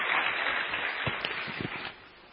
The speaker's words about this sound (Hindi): ताली से स्वागत करें एक हाथ की तरफ।